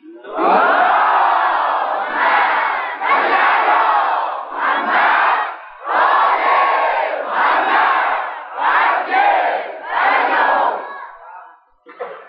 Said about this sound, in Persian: جهت سلامتی رهبر معظم انقلاب امام خامنه ای و همه ای بسیجیاش، بلخص شما عزیزان، اون صلوات بچه دیگه صدای شما میره به کجا برسه؟ مسجد کوفه محل یا الله اونجا برسه.